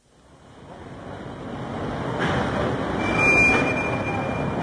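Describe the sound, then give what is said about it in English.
A train waiting beside the dock at Calais, its low, steady rumble and hiss swelling gradually over a few seconds, staying loud and continuous with no voices over it. “Oh, this is our train.”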